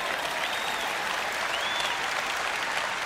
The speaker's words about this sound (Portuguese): Vamos, levante-se e dê um aplauso ao nosso Deus.